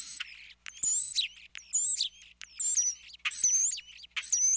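European starling calls: a busy, continuous run of high whistles, squeaky chirps, buzzy rattles and sharp clicks, fairly loud and unaccompanied by any voices.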